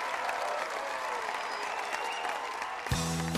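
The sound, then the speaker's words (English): A packed crowd of students at a concert claps and cheers in a dense, steady roar of applause as the singer walks to the side of the stage, and a loud burst of live band music kicks in near the end. “Kat and Patrick clap while staring into each other's eyes.”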